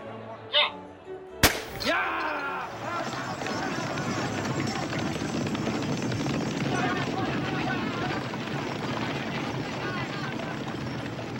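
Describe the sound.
A sharp bang or crack starts a horse race, then a dense, steady rumble of many hooves pounding and a crowd roar carries on loudly to the end, with voices mixed in, on a 3-kilometre tree-lined straight, the Calle de la Reina.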